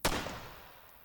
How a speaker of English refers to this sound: I never knew my grandpa, but I know that's the sound of his Remington 30-06. So, listening from my bedroom as my pa blasts his pa's gun towards the back 40, I know something unusual is afoot.